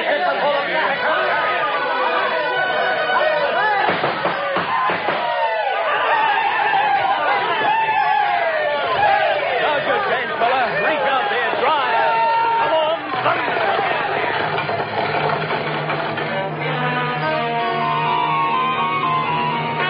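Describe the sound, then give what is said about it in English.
Dense, lively crowd chatter at the start of a land rush fills the whole stretch, many overlapping voices talking and calling at once, with scattered laughter and a steady, loud hubbub throughout. “Not quite as exciting now that the crowd is thinning.”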